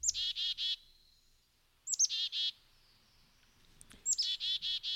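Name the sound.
chickadee calls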